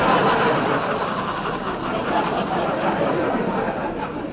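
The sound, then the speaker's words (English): A car engine idles steadily with a continuous, even rumble and broad noisy hiss as Jack Benny's car pulls up at the house. It stays fairly loud throughout, with no voices. “Jack, you better put the car in the garage.”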